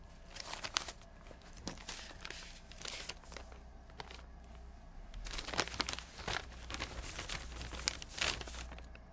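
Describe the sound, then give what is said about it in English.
Steady rustling and crinkling of paper, with sharp crackles and soft scrapes as it is drawn out of a purse as a sound effect on a film set, continuing for several seconds with no voices. “Paper coming out of purse, sound effect, and action.”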